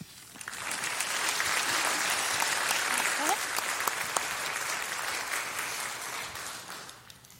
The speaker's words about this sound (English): One more round of applause for their testimony and their courage.